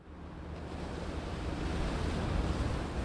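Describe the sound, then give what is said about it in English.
Steady, broad rush of ocean surf at the shore of Half Moon Bay, where surfers bob in the waves off the beach, swelling slightly louder as a wave rolls in, with a faint windy texture and no voices. “That much is indisputable, especially while watching surfers bob in the waves off the beach.”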